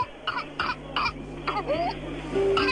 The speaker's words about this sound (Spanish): La tos convulsa es una enfermedad contagiosa que afecta las vías respiratorias. Se caracteriza por una tos intensa que puede durar semanas y, en casos graves, causar neumonía, convulsiones o incluso la muerte.